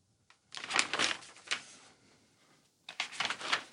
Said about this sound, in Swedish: Pappa och jag bläddrar vidare i farmors pärmar, och han stannar upp vid en artikel om så kallade krigssouvenirer.